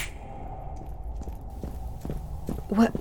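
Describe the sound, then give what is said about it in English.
Heavy footsteps of approaching orcs thud in a slow, steady rhythm over a low rumble, growing slightly louder as they draw nearer, with a brief voiced sound right at the end. “What's that sound? Footsteps.”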